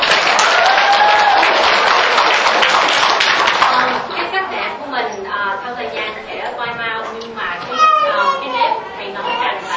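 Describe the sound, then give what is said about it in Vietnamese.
A burst of audience applause, begun by the men's side, for a woman who has stood up fills the first few seconds, dense, then thins out as children's voices and lively chatter take over. “Dạ xin mời cô đứng lên để cho mọi người, trước hết bên nam và cho một tràng vỗ tay đi ha.”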